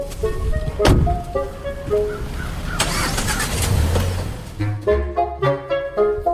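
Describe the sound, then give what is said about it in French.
A car drives in traffic on Sherbrooke Street in Montreal, with a steady low engine rumble and road noise, a sharp thump early on, and tonal sounds layered over the hum of surrounding traffic. “Non, et là, juste pour que vous sachiez, nous sommes pris dans la circulation sur la rue Sherbrooke.”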